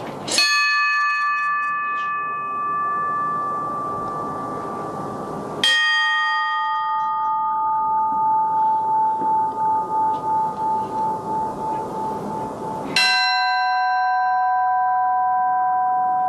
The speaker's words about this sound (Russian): Это повторяется несколько раз, и в конце небольшой трезвон, потому что смерть человека, она не окончательная, это лишь начало новой жизни. Удар в последующий колокол начинается после затухания звука от предыдущего.